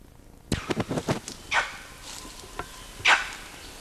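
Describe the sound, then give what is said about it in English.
An adult male monkey, LB, gives two harsh, raspy calls somewhere between a bark and a quiz, spaced over a second apart, after a quick run of sharp crackling rustles. “That's adult male LB giving something between a bark and a quiz.”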